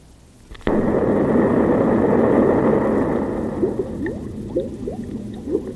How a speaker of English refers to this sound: Oh, bubbles? Yeah, it's bubbles. Why would they put that after an explosion? Are they threatening to turn us into bubbles? No. It sounds so much like rain, doesn't it?